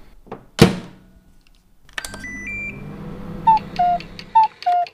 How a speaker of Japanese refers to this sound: そのボウルにグラニュー糖、生クリーム、牛乳を入れてラップをして600ワットのレンジでおよそ2分火を入れます。電子レンジにかけて温めてお砂糖を溶かすようにしましょう。